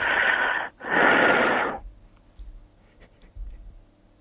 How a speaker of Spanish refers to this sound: Y con esta respiración